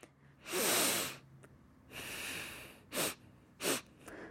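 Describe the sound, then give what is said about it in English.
A person sniffs and snuffles: one long, loud noisy inhale, a softer drawn-out breath, then two quick sharp sniffs. No one speaks. “Yes, so someone is sniffing. That's what we're hearing.”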